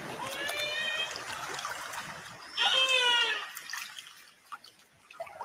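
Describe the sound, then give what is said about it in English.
A young killer whale, Brave Little Hunter, calls underwater in a lagoon, recorded by researchers with a hydrophone: two bursts of high, wavering, harmonic cries, the second louder and fuller, over a steady watery hiss that fades toward the end. “Her calls recorded by researchers using a hydrophone, likely gone unheard by her pod out in open ocean.”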